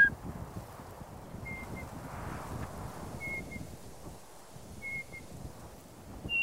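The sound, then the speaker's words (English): A night parrot's thin two-note whistle call repeats about three times at steady intervals, faint over a constant rush of wind and rustling vegetation. “And then there's a two-note whistle, which is like a”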